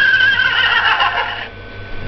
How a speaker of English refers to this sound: Horse.